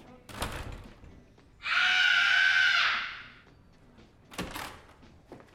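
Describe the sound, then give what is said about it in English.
A single sustained scream from a person in another room, lasting just over a second, strong and steady, set between two short knocking thuds like a door, with no talking. “I just screamed in there.”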